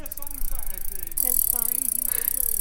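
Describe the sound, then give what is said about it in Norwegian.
A mountain bike freewheel ratchets as the wheel is spun backwards, giving a rapid, steady buzz of fine clicks that grows brighter partway through, with faint voices underneath. “Kan man sådan rulle de der hjul tilbage, så den siger den der...”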